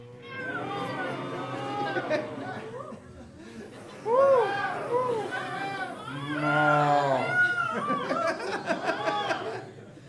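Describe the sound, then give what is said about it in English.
Several voices imitate cuckoo birds, peacocks, parrots, bees and cows all at once, a jumble of squawks, moos and whoops overlapping loudly for several seconds, with bursts of laughter mixed in. “And peacocks? Good. Parrots? Squawk, squawk, squawk. Bees? And cows? Okay, all together now.”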